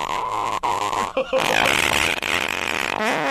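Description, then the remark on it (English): A long, drawn-out creaky fart noise, loud, stretching on for several seconds with rasping, buzzy texture and brief breaks, ending in a wavering squeak. “Talking about uncomfortably long. Sounds like a creaky door.”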